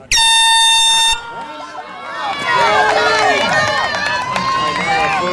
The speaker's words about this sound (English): Okay, step up to the start line. Right there. Okay, at the sound of the horn. At the sound of the horn, okay?